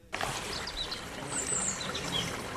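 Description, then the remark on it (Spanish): A steady rush of flowing stream water fills the scene, with small birds chirping in brief, high tweets above it, clear, and no voices. “Bueno, no sé si escuchan el agua. El agua, pajarillos, que nadie se crea que esto está falseado, que es un efecto.”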